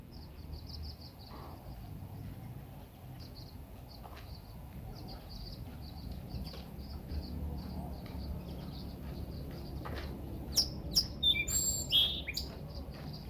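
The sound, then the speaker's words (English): A Song Sparrow sings in repeated short, high chirping phrases over a steady low rumble, with a louder burst of bright, sharp notes near the end. “Did you share that song, Sparrow? Let's see if it'll sing for us again.”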